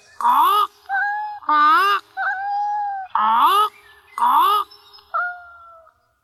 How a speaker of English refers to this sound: This is Joey, my parrot.